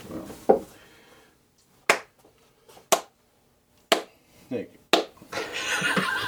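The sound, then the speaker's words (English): A slow, sarcastic hand clap: four sharp, loud claps spaced about a second apart, with a murmur of voices at the start and people talking again right after. “Sarcastic clap.”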